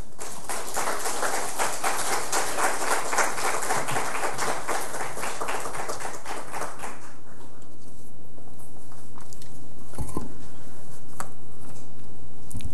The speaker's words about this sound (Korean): 우리 선교사님 나오실 텐데 하나님께 드리는 박수는 영광의 박수이고 또 사람에게 보내는 박수는 격려와 그리고 위로의 박수입니다. 선교사님 나오실 때에 우리 박수로 환영하겠습니다.